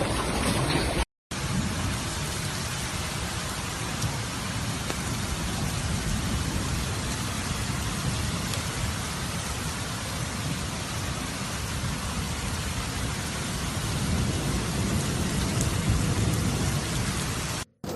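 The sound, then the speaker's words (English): Heavy, steady downpour of rain and golf-ball-sized hail with a dense hiss of drops and hard pelting on rooftops, vehicles and crops, under a continuous low rumble like thunder, lasting throughout with a brief break near the start and no voices. “Reports are pouring in of hailstones the size of golf balls battering down on rooftops, vehicles, and crops, causing widespread damage and chaos across the region.”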